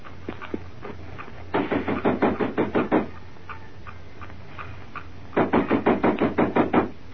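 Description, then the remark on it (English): Two bursts of rapid knocking on the wooden side door of Tai Sha Shung's house during the Feast of the Lanterns, each about eight firm raps in quick succession, separated by a pause of a couple of seconds, fairly loud with no voices. “Come on, we'll knock at the side door of Tai Sha Shung's house.”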